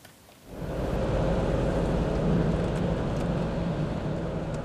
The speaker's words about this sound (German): Interessiert blickt Jens-Olaf Nuckel auf den brausenden Verkehr vor dem Elbtunnel.